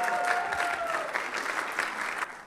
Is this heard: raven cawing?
no